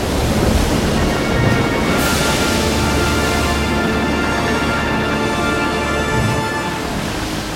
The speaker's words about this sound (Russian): зато загудело и застонало само море. Корабль несся все быстрее и быстрее, паруса развертывались один за другим, ветер крепчал, заходили волны, облака сгустились, и засверкала молния. Буря! Начинается буря!